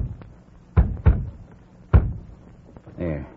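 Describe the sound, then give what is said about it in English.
Three solid knocks on the wooden door of York's room, two in quick succession followed by a single louder one after a short pause, then a brief voice begins speaking. “Let me rap. Maybe he won't answer till he knows I'm on hand.”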